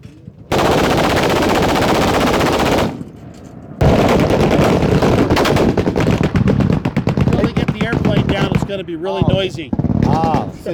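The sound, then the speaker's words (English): Loud, dense bursts of gunfire at a shooting range as flying targets are launched in front of the range, shots overlapping into a continuous rattling roar with a brief pause, and voices briefly heard over the shooting near the end. “C'est particulièrement bruyant parce qu'ils ont lancé des cibles volantes face au stand de tir et donc ça s'agite dans tous les coins.”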